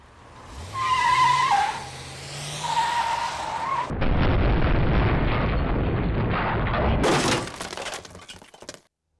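A car's tires squeal loudly in a skid as it crashes into a pillar, followed by a heavy, sustained crunching crash and a final burst of shattering, clattering debris before everything cuts to silence.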